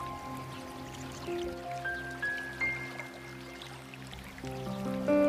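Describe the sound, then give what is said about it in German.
A small babbling brook trickles steadily at a soft, even level, its gentle bubbling water running throughout beneath sustained, calm musical tones, with no voices present. “Du fühlst die wunderbare Energie, mit der dich das Wasser des Baches auflädt.”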